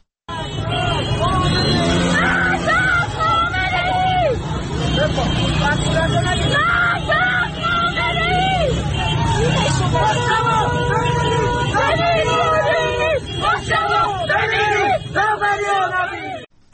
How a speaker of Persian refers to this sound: در خیابان ولیعصر تهران شعار مرگ بر دیکتاتور داده می شد.